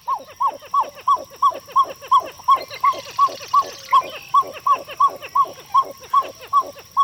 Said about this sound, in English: Perhaps it's this special talent that the amazing sinking pied-billed grebe is singing about.